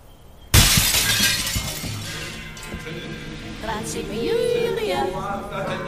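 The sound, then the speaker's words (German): A hallway mirror struck by an arrow shatters with a sudden loud crash, followed by several seconds of bright, scattering glass fragments tinkling and clattering as the breakage slowly settles. “Einmal öffnete ich die Haustür aus Eichenholz und tschack, stak ein Pfeil im zersplitternden Flurspiegel.”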